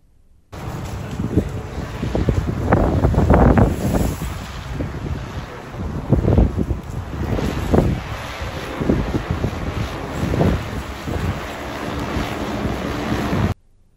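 A delivery drone flying, heard as a loud, steady rushing roar with gusty surges throughout, like wind buffeting, with no voices present.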